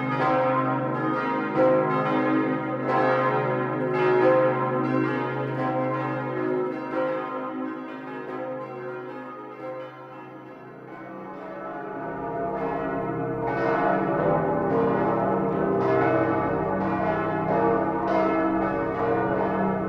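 A full peal of ten large cathedral bells spread across four cathedral towers rings continuously, dense overlapping strokes blending into a rich, resonant wash that swells again after a brief dip, with deep low tones underneath. No voices.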